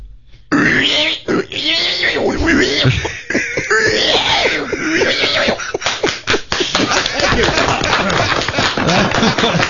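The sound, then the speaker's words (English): A person imitates a pen full of pigs and piglets, producing a continuous, loud stream of snorting grunts, throaty rasps and squeals. “It's not just a pig. It's piglets and pigs in a pen, several of them.”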